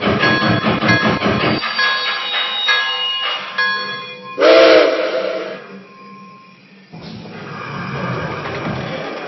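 Passenger train number 38, the Crescent Blue, idles at its Charlotte station stop: a steady mechanical rumble, a sharp burst of whistle and hissing steam partway through as the engine is steamed, then a quieter hum as the engine settles.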